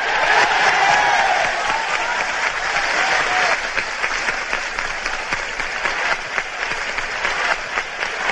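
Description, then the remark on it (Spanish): A crowd applauds an orator, clapping loudly and steadily, a dense, continuous wash of applause that holds strong for the full stretch with no talking over it. “Compañeros españoles, compañeros del universo que es nuestra patria, no destrocéis vuestras manos aplaudiendo al orador.”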